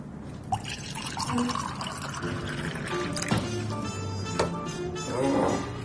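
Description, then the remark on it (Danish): Red wine being poured into a glass: a steady liquid stream with bright, gurgling pitch that rises slightly as the glass fills, with a few drips and faint clinks over low background murmur. “Det er et dejligt glas rødvin”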